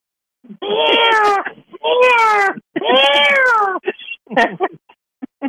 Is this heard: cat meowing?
yes